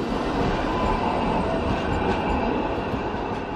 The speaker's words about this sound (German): Straßenbahnen der Linie 2 ziehen an uns vorbei. Sie fahren in Richtung Kossuth-Platz, in Richtung Parlament.